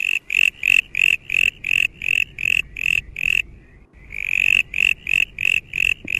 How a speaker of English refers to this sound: Well, let's paint a picture of the brown tree frog as originally understood. This is what it sounds like, for instance.